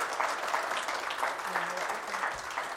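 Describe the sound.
A crowd applauds steadily, a dense, even wash of many hands clapping at constant loudness throughout, with a few faint voices mixed into the sound.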